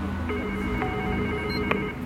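A phone or intercom call being dialed by a France Inter reporter: a steady electronic ringing tone hums throughout, broken by a few short clicks or beeps, moderately loud, with no one speaking.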